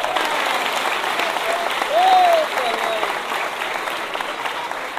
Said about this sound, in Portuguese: Levantem, crianças, recebam uma salva de palmas